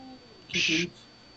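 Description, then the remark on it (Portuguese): A single short cat meow, fairly loud, standing alone against a quiet background hum for about a third of a second. “É um gato.”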